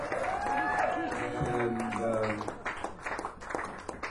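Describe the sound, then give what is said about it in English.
An audience at a live music performance applauds: voices and calls from the crowd at first, then a brisk, scattered patter of many hands clapping that carries on to the end. “You don't have to clap anymore.”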